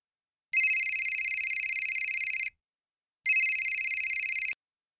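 A telephone rings twice, each ring a bright electronic trill lasting about two seconds, separated by a short pause, heard alone.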